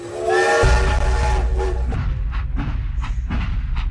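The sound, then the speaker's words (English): A loud steam train whistle blows a sustained harmonic note, then trails off into the chuffing rumble and clatter of a locomotive rolling along the tracks. “It's back on the train now, though.”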